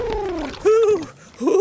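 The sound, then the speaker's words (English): Three warbling, throaty coos of Reggie, a pigeon riding a seagull. Each is a smooth gliding call, loud, separated by short pauses with no talking. “Oh, well, that would mean a pigeon riding a seagull.”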